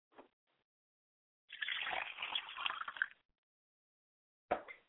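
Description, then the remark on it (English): Water is poured onto the ground as a libation in a purification ritual, in a steady splashing stream for about two seconds, bracketed by a couple of short splashes before and after, moderately loud with no voices. “And now that the water is poured on the ground where I'm standing at, I'm standing on holy ground”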